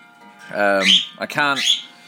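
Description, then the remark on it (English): A grey parrot gives two quick bursts of raspy, speech-like chatter laced with shrill whistled tones, fairly loud, separated by a brief pause. “As you can hear, she's chatting, she's whistling.”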